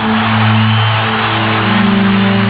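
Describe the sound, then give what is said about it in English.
A large stadium crowd of fans on their feet roars continuously, screaming and yelling in a dense, loud wall of sound that stays steady throughout, with a slightly muffled, narrow tone. “Everyone in the stadium on their feet, screaming and yelling.”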